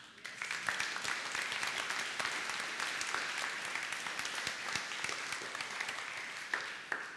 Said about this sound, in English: Will you now give a great big round of applause to God?